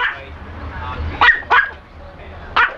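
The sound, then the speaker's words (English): A dog barks three times in short, sharp bursts, two close together and one after a pause, over a low background rumble, at a shop in Japan that hires out dogs. “Still, the dogs at this shop look eager enough to get out, and appear none too fussy about who takes them.”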